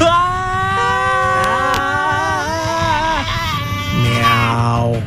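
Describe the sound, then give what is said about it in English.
Several voices scream together in long, overlapping wails that rise and fall in pitch, loud, filling the whole stretch without a break. “But right now, I think there is only time to scream.”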